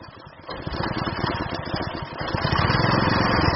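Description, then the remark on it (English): A small boat motor putt-putts steadily as the boat, carrying a thin 22-year-old man, crosses a 70-mile-wide flood lake in Pakistan, its rapid low chugging rising a little louder after the first half second and holding continuous throughout. “crams his thin form into the hull of a boat that putt-putts across a lake.”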